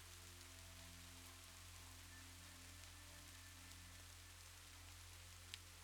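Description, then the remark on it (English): Steady rain falls outdoors in the late afternoon during a walk, a continuous soft hiss with scattered drops tapping, over a low constant hum; one brief sharper patter near the end. No one speaks. “So I've got time, but I'm moving really slowly and it's raining and I'm starting to have my doubts.”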